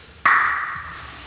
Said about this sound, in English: What is the name of this room? Cathedral Room. Because it looks like a cathedral. And the sound in it is like a cathedral. Does it have an echo? Oh yeah, hear it.